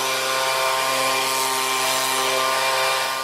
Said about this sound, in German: Laubbläser und die sind ziemlich laut